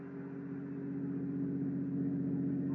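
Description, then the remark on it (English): A motor car's engine hums low and steady, its droning tone growing slightly louder over a few seconds as it approaches a decaying weather-boarded house on the marshes, with no voices. “There's a motor car.”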